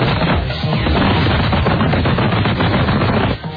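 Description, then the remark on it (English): Heavily processed paper rustling: a loud, continuous stream of dense, crackling bursts with a harsh, muffled, almost gunfire-like texture, easing off briefly just before the end. No one speaks. “Let's all listen to how the processing makes this paper rustling sound fantastic.”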